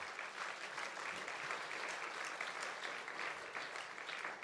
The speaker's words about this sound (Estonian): et te tõuseksite korraks, me tahaksime teid tervitada, anda teile tere tulemast aplausi täna.